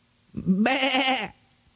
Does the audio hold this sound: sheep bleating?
yes